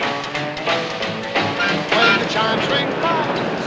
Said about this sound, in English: Now, elevated commuter trains roll in opposite directions.